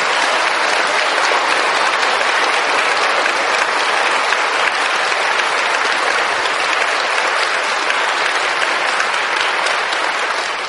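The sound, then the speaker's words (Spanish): Steady, dense applause from an audience in a church, applauding the Virgin Mary, a continuous wash of many hands clapping at an even, fairly loud level for about ten seconds without a break or any voices. “Estoy preocupado porque si ese es el más fuerte aplauso, está muy regular la ceja, muy regular.”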